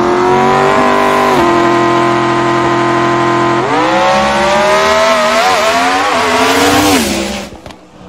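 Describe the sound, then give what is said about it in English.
A Coyote-engined car roars hard down a drag strip, its loud engine note climbing in pitch through several sharp gear shifts before tapering off at the end. No one speaks. “The noise coyotes make cannot be compared to anything else.”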